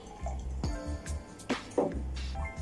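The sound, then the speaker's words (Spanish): Lemon-lime soda pours into a glass already holding ice, fruit, tequila and mineral water while a drink is mixed, with a few short splashy gurgles and bubbling bursts over a steady liquid trickle. “El refresco de lima-limón.”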